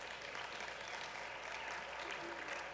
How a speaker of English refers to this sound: They're clapping.